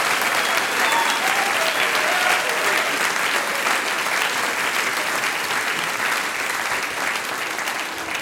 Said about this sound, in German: Und auch er kriegt jetzt noch einmal einen riesengroßen Applaus